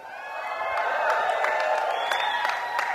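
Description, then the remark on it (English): A crowd applauds steadily, with dense clapping and some cheering voices mixed in, sustained and fairly loud throughout the few seconds. “obviously from the applause, you guys stole my thunder, I should have had that come up after.”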